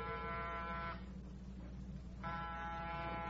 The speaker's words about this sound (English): Get off the buzzer. Lomax can't hear it.